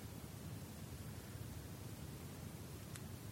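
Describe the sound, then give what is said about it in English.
Steady, continuous roar of wind mixed with the wash of waves crashing on a not too distant shore, heavy in the low end, with no distinct individual crashes and no voices. “Only to be answered by the hollow echoes of the wind and the crashing waves on a not too distant shore.”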